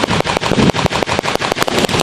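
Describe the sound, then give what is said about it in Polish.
Loud, rapid gunfire from an uprising reenactment in Witkowo and Anastazewo: an exchange of fire from long guns and machine guns, a sustained stream of sharp, cracking shots in quick, fairly regular succession, like machine-gun bursts, with no voices. “Wymiana ognia zarówno z broni długiej, jak i broni maszynowej.”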